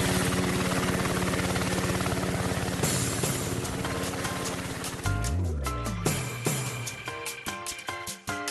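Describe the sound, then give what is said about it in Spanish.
Rapid, steady whump of helicopter rotor blades fills the first few seconds, loud and continuous, before giving way to a jumble of sharper tonal sounds and clatter. “Bueno, aquí no, yo no oigo las aspas del helicóptero, pero...”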